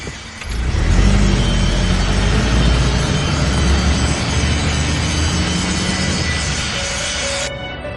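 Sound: car driving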